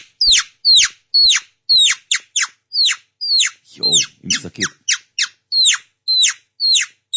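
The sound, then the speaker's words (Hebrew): A man imitates a frantic, distressed rooster as heard at the kapparot ritual, live on the radio station Kol Chai, with a rapid, steady run of shrill, piercing squawks, loud. Midway, a brief burst of lower, throaty clucking joins in. “בכפרות זה קול אחר בכפרות.”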